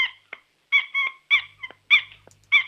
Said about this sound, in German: Ist das ein Quietscheentchen? Nein. Was ist es denn dann? Eine Schildkröte, die quietschen kann.